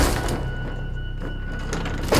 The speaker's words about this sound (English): I hear a thud on my window.